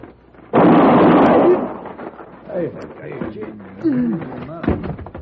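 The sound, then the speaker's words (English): One loud, sharp shot from a two-shot Derringer pistol cracks out and rumbles away over about a second, then men's voices begin talking. “Where'd you get that Derringer? Come on, you stay back. It holds two shots.”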